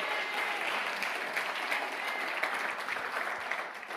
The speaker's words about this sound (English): If you receive that, go ahead and give the Lord a great hand clap one more time.